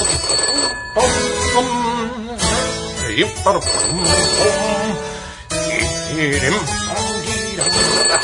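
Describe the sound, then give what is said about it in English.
A telephone rings in repeated bursts, fairly loud, layered over a busy tonal background with voice-like sounds. “the telephone is ringing.”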